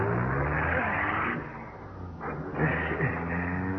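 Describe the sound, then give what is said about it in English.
A car engine roars loudly, its pitch dipping and then rising again as it revs and pulls away at speed, with no voices over it. “We got the guy's clothes, a little dough, and a car. Let's go. Come on. Step on it.”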